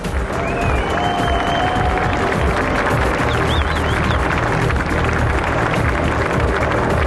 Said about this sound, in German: Weil das können Sie sich vorstellen, was da los ist, wenn man hier rausfahren muss und dann Tausende von BMW-Mitarbeitern, von Werkern, von Fans. Stellt euch das vor, gebt ihnen einen riesen Applaus.